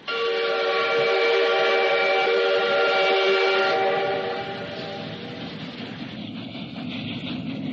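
A loud, sustained train whistle blows for a few seconds with a steady, rich tone, then cuts off, leaving the low rumble of the rolling train underneath.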